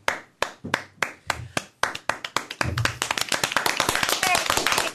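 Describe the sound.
A few scattered hand claps quickly build into dense, steady clapping from several people nearby, with voices murmuring underneath.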